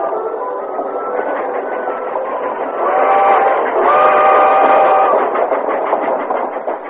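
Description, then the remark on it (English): A train rolls steadily along the rails on its way to Richland, its continuous rattling rumble fairly loud, with a brief wavering metallic squeal rising over it midway before the clatter carries on. “Alone in the train on their way to Richland.”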